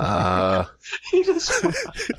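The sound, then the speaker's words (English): A voice makes a loud, buzzy, drawn-out fart noise lasting over half a second, then after a brief pause a person starts talking quickly. “you just go from a black slam poet and you fart so hard that you turn into Jerry Seinfeld.”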